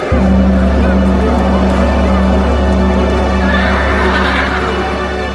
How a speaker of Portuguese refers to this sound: E quando a corneta soa, não podem parar quietos. Eles respondem com rinchos aos toques das cornetas.